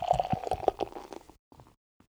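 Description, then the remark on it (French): American beer is poured from a can into a glass: liquid glugs and splashes with a bubbly gurgle for about a second, then a few faint fizzy trickles before it falls quiet. “Bière américaine oblige, c'est une canette.”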